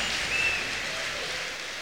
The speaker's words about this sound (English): Many of the delegates are standing and in the risers at the ends of the halls, stamping their feet. You can hear a roar of the crowd.